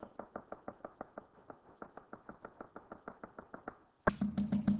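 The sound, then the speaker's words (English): Rapid, steady knocking on a door, about five raps a second for roughly four seconds. Then a louder voice cuts in abruptly at the very end. “Who at your door is standing tonight?”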